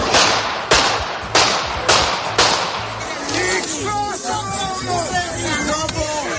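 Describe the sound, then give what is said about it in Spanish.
Five sharp pistol shots crack out in quick succession, spaced about half a second apart, as an older man fires at Fico while he greets supporters across a fence, followed by a crowd breaking into frantic shouting and commotion. “Han sido 5 tiros.”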